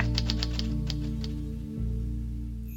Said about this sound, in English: Ernie, what are you typing? Well, I'm writing a poem, Bert.